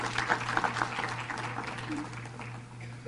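An audience claps in a dense, steady wash of applause that holds for about three seconds, fairly loud throughout, with a low constant hum beneath it.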